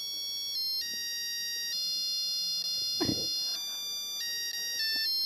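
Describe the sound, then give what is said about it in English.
A musical egg timer signals that a hard-boiled egg is ready with a bright electronic jingle: a steady sequence of high, pure beeping notes that shift in pitch every second or so, with a brief muffled bump partway through. No one speaks. “And then here's a hard boiled egg.”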